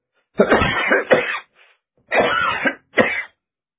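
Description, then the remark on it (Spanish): A harsh coughing fit: two quick hacking coughs, a brief pause, then two more forceful bursts, loud and raspy with no speech. “Mira, me agarré una tos tremenda.”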